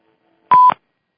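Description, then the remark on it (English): A single short electronic beep, loud and clear, tone steady for about a fifth of a second, standing alone in silence, signalling that a caller has joined the line. “And I think we have a caller on. I heard a beep.”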